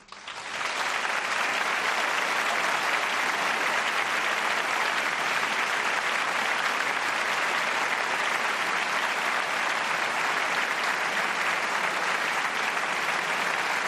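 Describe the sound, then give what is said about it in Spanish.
Sustained applause from a large crowd for Antonio Tajani's words in favour of respect for the rule of law, a dense, steady wash of clapping that starts abruptly and holds at an even, loud level for about fourteen seconds with no voices standing out. “Aplausos a Antonio Tajani por esas palabras a favor del respeto al Estado de Derecho.”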